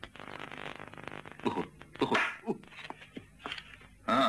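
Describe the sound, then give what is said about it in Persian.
A dog whimpers and lets out a few short, sharp barks in irregular bursts, with a louder yelp at the end over a low background murmur. “بعید نیست سگرم این خورده باشه.”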